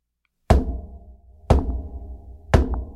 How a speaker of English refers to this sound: Just three loud knocks. Now, my little bedroom den that I'm staying in is about 10 feet from the front door. And it didn't sound like someone was knocking on the door. It sounded like they were knocking on glass.